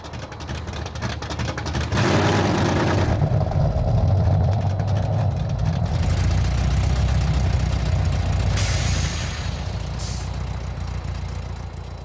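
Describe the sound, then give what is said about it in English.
A 1990 Chevy Corvette with a Chevy 350 small block engine, 245 horsepower and a 4-speed automatic, idles steadily with a deep, rumbling low-end throb, fairly loud, with a brief surge of revving or hiss near the start and short bursts later. “Under the hood is a Chevy 350 small block engine with 245 horsepower and a 4-speed automatic”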